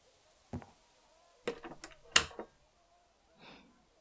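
door being closed

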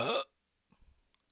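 loud burp

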